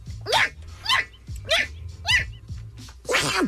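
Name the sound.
sneeze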